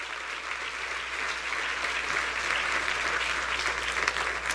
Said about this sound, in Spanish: Si ese es el aplauso, yo no sé.